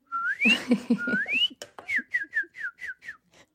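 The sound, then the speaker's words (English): A person whistles an imitation of a cardinal's song: two long rising slurred notes, then a quick run of about eight short, clear down-slurred chirps, fairly loud, with low voiced sounds under the opening. “Okay, let's have my cardinal meet your barred owl.”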